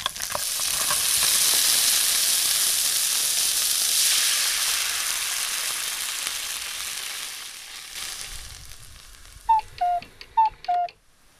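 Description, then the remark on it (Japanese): Ginger and garlic sizzle in sesame oil in a pot over heat while making a Korean-style jjigae, with a steady, bright hiss that slowly fades, followed by four short, high electronic beeps in two quick pairs. “お鍋にごま油、生姜、ニンニクを入れて火にかけて、生姜、ニンニクのいい香りがしたらアサリ、水を入れます。”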